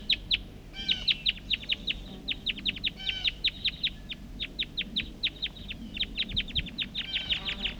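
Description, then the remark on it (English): Rapid series of high, sharp calls of wild birds up in the trees, repeating in quick bursts throughout, with several birds overlapping in a chattering rhythm over a low rumbling background. “Recording, these are calls of the wild birds.”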